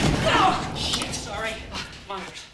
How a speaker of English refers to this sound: As they step out, the doors close behind them.